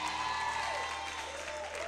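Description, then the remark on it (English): An audience claps together in a dense, steady burst of applause in praise of the Lord for two seconds, loud and continuous, with sustained tones and a gliding voice-like sound faintly beneath. “Now come on and give the Lord a hand clap of praise.”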